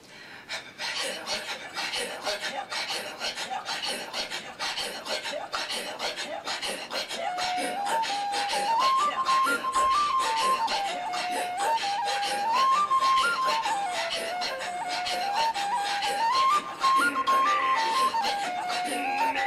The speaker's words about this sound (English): Brad Hurley shows in the next piece that it's possible to play a reel on the penny whistle accompanying Inuit throat singing.